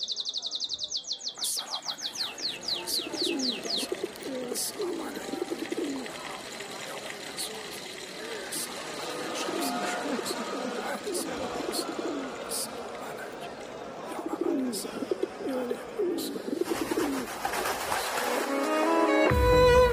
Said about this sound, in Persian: هنوزم صدای آواز قناری رو میشنوم.